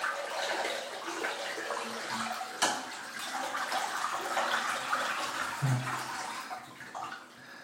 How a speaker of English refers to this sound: I move, and because I've started letting the bath water out, because like one end of the bath is really, really narrow and the rest of the other bit's wider.